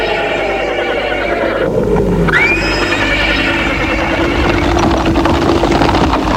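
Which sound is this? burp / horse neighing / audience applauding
horse neighing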